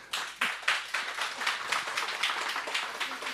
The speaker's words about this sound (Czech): Dobrý den, tak vítám tady také všechny ostatní posluchače, kteří přišli sem k nám si sednout právě do zmíněné Radiokafe, takže vítám také vás a prosím, abyste mi potleskem odpověděli, že jste tady.